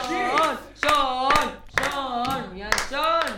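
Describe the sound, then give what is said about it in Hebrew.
A crowd claps along with sharp, scattered hand strikes while voices chant loudly in four drawn-out, repeated bursts that largely cover the applause. “אז תקבלו מחיאות כפיים”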